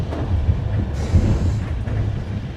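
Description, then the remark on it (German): A PKP and Deutsche Bahn train with six-seat compartments, travelling from Kraków, rolls steadily along the tracks, a continuous low rumble with faint rhythmic rattling of the carriages, heard from inside at moderate volume with no voices. “Der Zug rollt jetzt.”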